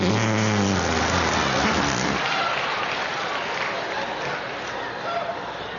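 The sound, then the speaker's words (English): A low, buzzy fart noise made by squeezing the crook of an arm, about two seconds long and loud, followed by a steady, crackly hiss resembling applause. “There are a lot of ways to make the fart sound when you're a kid.”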